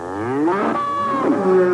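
A bull lets out one long, drawn-out moo, loud and close, its low bellowing voice sliding in pitch before trailing off, with no one talking.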